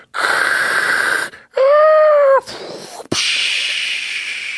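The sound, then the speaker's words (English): A voice imitates a tsunami with the mouth, an oral sound effect from Spoofco's Aluminium Collection box set: a loud breathy rush of air, a rising-and-falling whistly wail, a sharp click, then a long steady hissing roar. No words are spoken. “Tsunami.”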